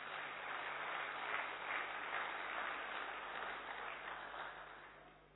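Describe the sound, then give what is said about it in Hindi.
Sustained crowd applause as an audience claps for themselves, a dense steady wash of many hands clapping that holds for several seconds, then gradually thins and fades toward the end, with no voices over it. “तो बजाइए ताली अपने लिए।”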